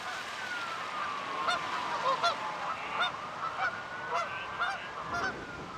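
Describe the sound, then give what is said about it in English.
A flock of geese at a small lake near the Kauffman Foundation, suddenly startled by Gail, honking in a rapid, overlapping flurry, calls repeating steadily for several seconds over a hissy outdoor background, with no voices. “Gail slowly moves in low to the ground, then suddenly and quickly startles the flock, sending them to another area.”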